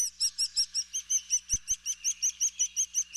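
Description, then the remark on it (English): A begging chick calls insistently in a rapid, steady series of high, thin chirps, roughly five per second, with no pauses; two soft low thumps interrupt briefly midway. “shows just how powerful the sound of a begging chick is to an adult bird.”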